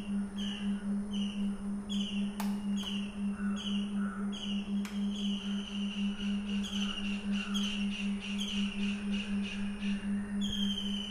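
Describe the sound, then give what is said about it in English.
Many birds chirp and call at once, a lively chorus of repeated tweets and whistles layered over a steady low hum, with no talking. “All these birds communicate right now by making sounds.”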